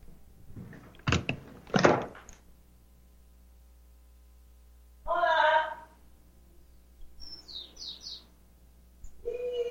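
household object, knocking on a door

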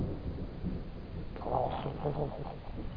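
nature, thunder

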